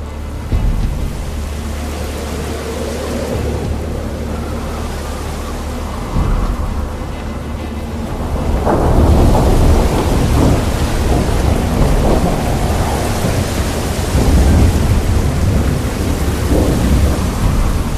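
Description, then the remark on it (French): A thunderstorm at sea with heavy rain pouring down steadily onto a boat amid giant waves during a tornado, low rumbling thunder rolling underneath, growing louder and denser about halfway through. No voices. “En moins de 2 minutes, des trombes d'eau se déversent sur le bateau et des vagues gigantesques engloutissent nos aventuriers.”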